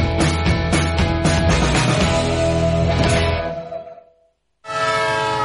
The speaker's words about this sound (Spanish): Un tren que se va.